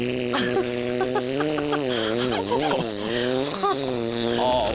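A long, loud fart drones on for several seconds, its buzzy pitch wobbling up and down, with no talking over it.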